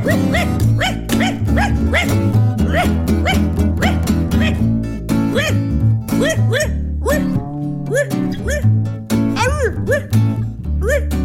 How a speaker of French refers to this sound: je suis Rocky le roquet, je mords les fesses et les mollets, j'aboie tout le temps